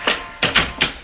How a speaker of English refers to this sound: Stop fumbling with those keys. Open the door.